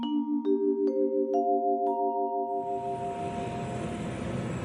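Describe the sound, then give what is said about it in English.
A quick run of bright chime tones stepping upward, then a broad, steady aircraft engine roar swells in at Abadan Airport, in humid weather, just after a plane has landed. No one speaks. “I am now at Abadan Airport. I just got off the plane.”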